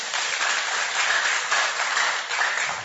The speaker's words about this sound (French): Est-ce que vous pouvez applaudir?